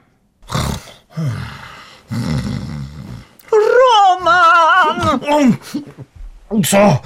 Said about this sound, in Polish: …, chrapiesz. Ja nie chrapię. A, to ja chrapię i jak głośniej chrapnę, to się budzę.